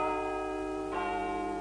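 A clock strikes eleven with deep, resonant bell tones: one stroke rings out and lingers, then a second follows just under a second later, steady and fairly loud, with no voices.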